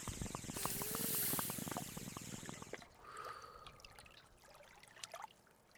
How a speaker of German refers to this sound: Da hört man bereits ein Ziehen und Blubbern. Und kurze Zeit später schlurft … herbei, der an seiner Wasserpfeife zieht.